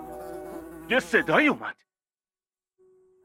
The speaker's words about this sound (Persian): پشه برو ببینم، این مال منه.